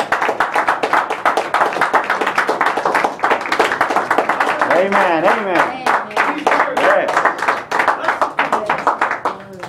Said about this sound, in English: Can we just give the Lord a hand clap of praise tonight?